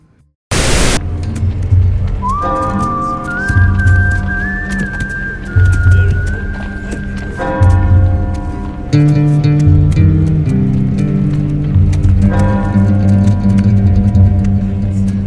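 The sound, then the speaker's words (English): A slow, mournful melody is whistled with an echo effect over sustained low instrumental backing on a film soundtrack, the long gliding notes trailing off with a reverberant echo. It plays continuously at a steady, fairly loud level. “On the soundtrack, a sad, lonesome tune is being whistled with an echo effect.”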